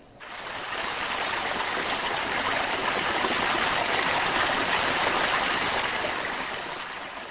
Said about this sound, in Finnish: Virtaava vesi muokkaa maisemaa.